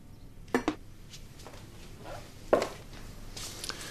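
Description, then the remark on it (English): A father pours a drink into a glass: a couple of sharp glassy clinks, a quieter shuffle, another bright clink, then a brief soft splashing hiss at the end. No one speaks. “He looks over at his father, who's pouring a drink.”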